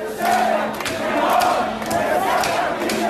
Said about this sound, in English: The images shocked many people around the world, and they set off days of protests in Beirut. This past weekend, tens of thousands of protesters took to the streets.